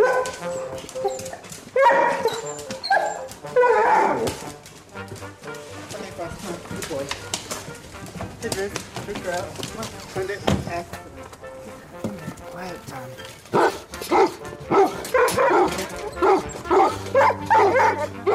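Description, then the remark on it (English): Several Weimaraner dogs bark and whimper excitedly as they set off on a walk in Clontarf, with bursts of yips and whines throughout alongside hoof-like clopping and a person talking over the commotion. “I have Weimaraner dogs.”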